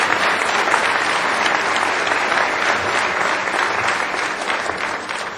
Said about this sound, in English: Now you may applaud.